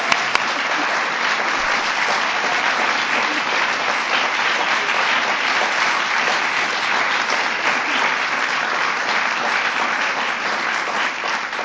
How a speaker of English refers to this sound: And last but not least, I want to recognize the young people who are up on, not this stage, but in front of this fireplace with me, our fifth class of National Student Poets. Let's give them another round of applause.